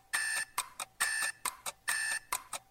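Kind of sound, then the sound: household object, old alarm clock ringing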